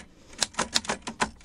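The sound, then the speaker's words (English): Rapid typewriter key strikes clatter in an uneven rhythm, about eight sharp clicks over a second and a half, moderately loud with no voices, made by a sound effects man as typing for an office scene. “in a scene, it's an office, and the sound effects man is making a typing sound.”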